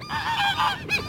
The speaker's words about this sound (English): 2 out of 3 geese.